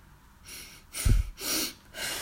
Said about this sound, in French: Elle renifle un grand coup